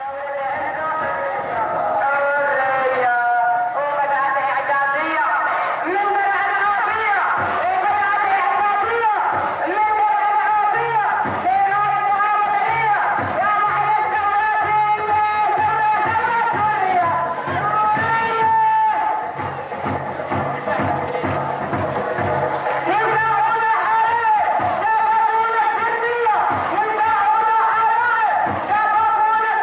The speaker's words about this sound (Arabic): نذهب بكم مشاهدي الكرام إلى مدينة الضمير في ريف دمشق ولننقل لكم وعلى الهواء مباشرة مظاهرة الأحرار في مدينة الضمير في جمعة اليوم. أتى أمر الله فلا تستعجلوه. فإلى الضمير ومع هذه المظاهرة التي يرفرف فيها علم الاستقلال خفاقا عاليا في سماء مدينة الضمير.